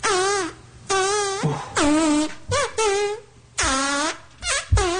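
A string of loud, buzzy fart noises, about eight blasts in quick succession, some long and wobbling, others short, with brief gaps between them and no talking.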